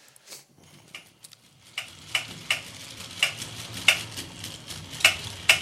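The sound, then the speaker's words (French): A mechanical pig toy gives off short, sharp, modulated beeps in an uneven, Morse-like rhythm, growing louder as a low whirring hum starts underneath partway through. “Vous voyez, il est rythmé, ça veut dire il fait bip, bip, bip, bip, bip. Vous voyez, c'est comme du morse presque.”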